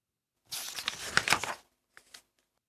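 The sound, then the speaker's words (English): Crinkly, rustling paper noise is heard for about a second as scrap paper is pushed into a paper bag, followed by a brief softer rustle. Fairly loud, with no talking. “Fill up the paper bag with the scrap paper.”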